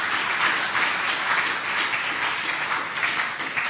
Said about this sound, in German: Ganz herzlichen Dank. Applaus.